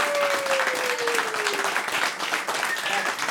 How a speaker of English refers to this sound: And we give her a round of applause.